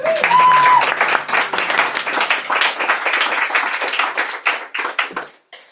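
An audience breaks into a round of applause, dense clapping that holds steady for several seconds, then thins into a few scattered claps before stopping. A brief tone sounds at the start.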